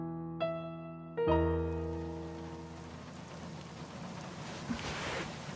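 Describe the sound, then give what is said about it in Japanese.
Rain begins to fall, a soft, steady patter building into a broad hiss, after two resonant ringing tones at the start that slowly fade beneath it. No one speaks. “なんか、雨が降り始めちゃったね。”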